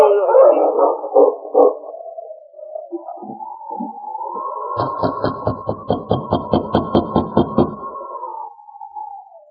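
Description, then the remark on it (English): Sergeant Preston's sled dog team, pulling his sled toward Dawson and halting by a cabin next to the mission on the town's outskirts, howls in long, wavering cries, then breaks into a rapid series of rhythmic yelps and barks over a sustained howl, loud, with no talking. “As he approached the town, he saw lights in the small cabin of Father McLean, who lived next to the mission on the outskirts of the community.”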